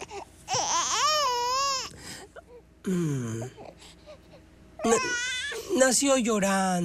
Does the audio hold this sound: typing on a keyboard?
no